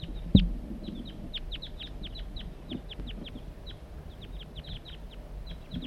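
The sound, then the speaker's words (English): A crossbill gives a steady stream of sharp, high chip calls in flight, repeated dozens of times at an irregular quick rhythm over a low background rumble, with a brief thump near the start. “Another crossbill's flying over.”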